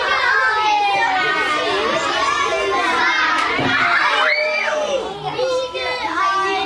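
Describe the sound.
A kindergarten group of young children at the Jugendverkehrsschule Charlottenburg chatter and shout excitedly all at once as two eggs, one wearing a bicycle helmet, are thrown to the ground; their high-pitched voices overlap continuously in a loud, lively babble with occasional sharper squeals.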